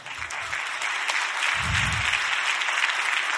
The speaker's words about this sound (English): You got that hesitant clap like, is he about to tell us but we're really filthy rags? Not.